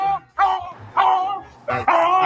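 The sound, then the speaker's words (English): A dog barks repeatedly in short, loud, harmonic yelps, about four or five barks in quick succession with brief gaps, heard on its own. “That dog is how my eye is, right? Imagine this dog is this eye.”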